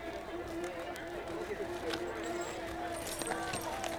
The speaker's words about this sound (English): The sound of horse hooves and insects and the wheels of the stagecoach and the chatter of people linger.